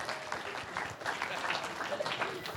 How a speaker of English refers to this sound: So let's give him a warm round of applause.